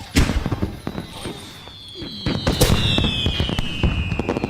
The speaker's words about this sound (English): Okay. What the? Fireworks.